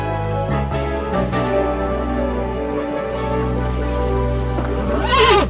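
A horse neighs with a loud, wavering whinny that rises and falls near the end, over a steady low droning background and a few sharp knocks earlier on.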